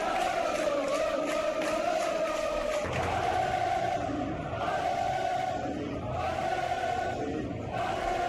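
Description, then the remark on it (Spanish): More than 3,000 Atlético de Madrid fans at Old Trafford chant loudly and continuously in unison, a sustained euphoric roar of many voices with a steady rhythmic swell that shifts slightly partway through. “Había más de 3.000 rojiblancos en Old Trafford. Acabaron eufóricos gritando esto.”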